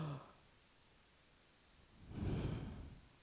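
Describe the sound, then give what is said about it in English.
A single deep, rasping breath drawn into the throat after a stretch of near silence, fairly quiet, swelling and fading over about a second. “Finally, a saving breath filling the back of the throat.”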